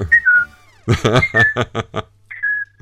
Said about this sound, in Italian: Qui c'è un bel fischietto, un po' ironico, secondo me.